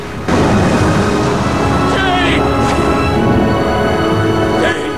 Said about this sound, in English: The water crashes against the pebbles.